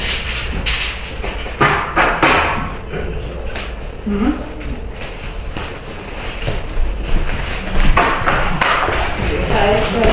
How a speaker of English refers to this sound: We're going to shut these doors while you guys turn there.